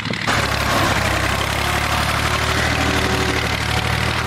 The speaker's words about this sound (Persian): در ولسوالی واشهر ولایت هلمند، افراد مسلح طالبان در نزدیکی یک زمین کشت کوکنار ساده و تماشا میکنند که چگونه تراکتور کشت کوکنار را تخریب میکنند.